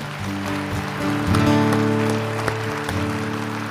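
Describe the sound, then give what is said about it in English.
An audience claps steadily throughout during a church service, a dense wash of many hands layered over sustained, droning keyboard chords that swell slightly in the middle and then hold. “So in light of that, feel free to clap.”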